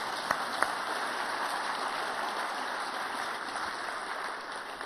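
An audience applauding as a speaker's wife comes up to share: a dense, steady wash of many hands clapping for about five seconds, with a couple of sharper individual claps early on and no voices.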